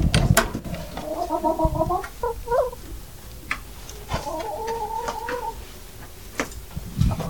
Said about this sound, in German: Diese eine kleine Hütte ist das hier aus Holz, hinten sind Hühner. Jetzt wird hier die Tür aufgeschlossen zu den Hühnern und die Klappe wird geöffnet, wo die Hühner rauskommen.